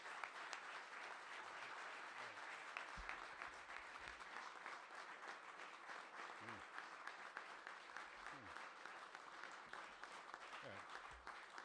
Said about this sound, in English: I wonder if everybody in the room would just join me in a round of applause for an outstanding leader.